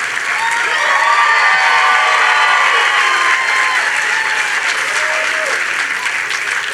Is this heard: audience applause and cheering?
yes